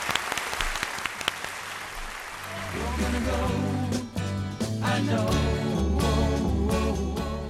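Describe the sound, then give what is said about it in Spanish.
A brief burst of crowd clapping, the applause of the day for Fuerteventura, dense and crackling, quickly gives way to loud upbeat music with a steady bass line that carries on to the end. “Oye, el aplauso del día para Fuerteventura.”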